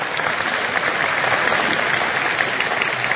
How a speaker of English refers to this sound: I've asked the staff back here, who's the tech staff at this place, is fantastic. And I think they need, yes, a round of applause.